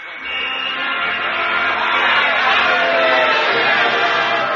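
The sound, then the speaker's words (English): A loud crowd at a party cheers and shouts all at once at midnight, with the radio turned up, a dense wall of celebrating voices rising quickly and holding steady for several seconds. “Well, Miss Brooks, nice party, no?”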